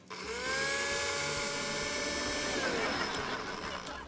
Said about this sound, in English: So first, we take this spaghetti and the meatballs, you gotta love spherical meat. We put it in the blender. There we go. Ready? And we press frappe.